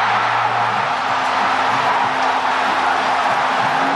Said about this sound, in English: Boy, did that stadium finally get something to cheer about as Volpe hit that grand slam and the Yankees crowd loses their mind.